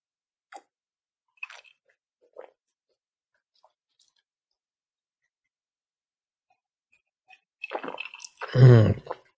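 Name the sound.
sipping water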